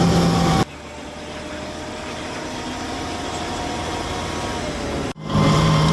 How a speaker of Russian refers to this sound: Зараз у броньованому автомобілі їдемо на мінометну позицію.